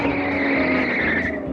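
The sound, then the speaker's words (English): A car driven by a man in a hurry tears away with a loud, sustained screech of tires over a roaring engine, one continuous squeal lasting about a second and a half, without any voices. “Boy, that guy was really in a hurry.”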